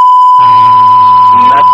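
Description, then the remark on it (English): A milliwatt test tone on a phone line: one loud, unbroken high-pitched tone that holds perfectly steady, with a low buzzing line hum joining beneath it partway through before it cuts off. “That's the milliwatt.”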